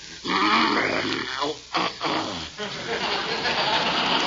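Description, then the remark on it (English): A human voice imitates a bear named Carmichael, growling and grunting loudly in a rough, low rumble that runs almost continuously, broken by a couple of short pauses, with no words spoken, as the bear is coaxed to take cough syrup. “Now, here, Carmikey, be a good little bearsy-wearsy and open Ooze's mouth.”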